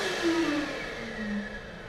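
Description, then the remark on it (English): A motion sensor hand dryer in a bathroom blows with a steady rush of air over a whining motor hum that wavers slightly in pitch, continuous and fairly loud with no voices. “She grabs the ball and passes a motion sensor hand dryer.”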